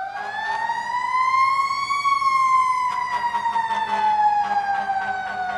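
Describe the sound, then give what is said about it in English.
A fire engine siren wails loudly and steadily, its pitch rising slowly then gliding back down in one long sweep, with faint rhythmic engine or horn bursts beneath it. “Thanks to freesound.org for the fire engine sound”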